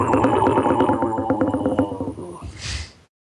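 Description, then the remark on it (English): A deep, slowed-down cow moo stretched into a long, distorted bellow with a wash of echo, loud and alone for about three seconds before ending in a breathy rush. “Well, if you take a moo and warp the pitch down and extend the sound.”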